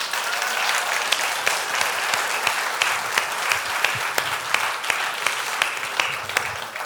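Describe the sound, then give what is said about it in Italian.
A church audience applauds steadily, many hands clapping in a dense, continuous patter with occasional sharper individual claps standing out, holding at an even loudness throughout with no voices heard. “E credo che tutta la Chiesa possa fare un grande applauso.”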